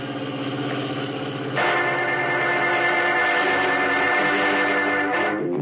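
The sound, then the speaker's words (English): A station wagon's engine runs steadily on a road with a low mechanical hum, then swells louder and brighter partway through as it revs up, continuing at a strong, even drone until near the end. “Ominously, Big George Latimer directs Blake to stop the station wagon beyond a tree-hidden curve in the road and leave the car, preparing a trap which he says will remove Batman and Robin from his trail for good.”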